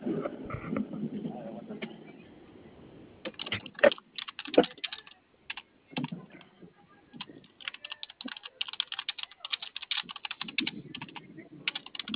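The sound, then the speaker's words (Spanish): Rapid clicks of typing on a computer keyboard, in uneven bursts of keystrokes that grow busier and denser toward the end, over a low background rumble. “Sí, está prendido el teclado.”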